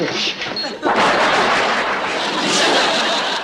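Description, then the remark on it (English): A loud, sudden crack of thunder on a rainy night bursts in under a second in, then rolls on as a broad, heavy rumble that stays strong and steady to the end. “Listen to that thunder.”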